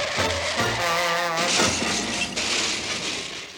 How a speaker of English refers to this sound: Okay, so let's say you get in a car accident. Insert cartoon car crash sound effect here.